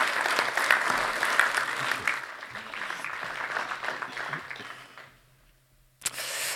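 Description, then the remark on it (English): An audience claps to welcome two guests up onto the platform for the evening, a dense, sustained round of applause that fades out after about five seconds, followed by a brief pause and then a sharp new burst of sound. “Why don't we give them a round of applause as we welcome them up this evening?”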